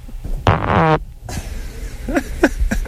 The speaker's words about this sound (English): I got a good fart coming on now. Hold on.